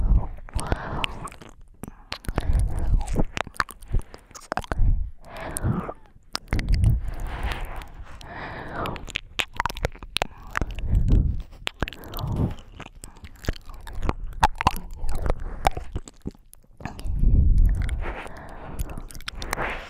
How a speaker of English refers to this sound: Seems like if I lick your ears like a puppy dog, it's like a drag sound. Can you hear this? That's just my tongue going up. The 3D wouldn't make that kind of noise. Doesn't sound like I'm licking you.